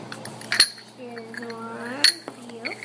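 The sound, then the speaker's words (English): Two sharp clinks of dishes and cutlery knocking together as dishes are washed in a kitchen, spaced about a second and a half apart, with a soft voice humming or murmuring in between. “Very good job of washing the dishes.”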